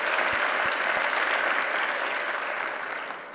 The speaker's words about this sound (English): I think he deserves a special round of applause here. Thanks, Georges.